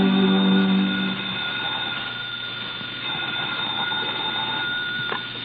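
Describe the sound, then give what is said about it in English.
A telephone rings once in a loud, buzzy burst of about a second, then cuts off, leaving a steady low hum and faint tones with no one speaking. The phone rings at a desk in the sparsely furnished office of the Red Diamond Line. “We find her at her desk as the phone rings.”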